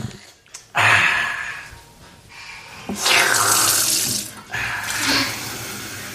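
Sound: water running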